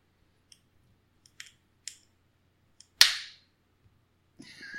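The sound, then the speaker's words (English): A few light metallic clicks, then a shaken beer can's tab cracks open with a sharp, loud pop and a gushing hiss that fades, followed by steady foaming fizz. No one speaks. “I think it's going to be fine. If the tab doesn't break.”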